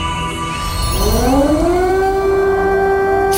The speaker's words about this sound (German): 24. Februar 2022. Luftalarm in Kiew. Kurz nachdem die Sirenen das erste Mal geheult haben, schlagen russische Raketen in der ukrainischen Hauptstadt ein.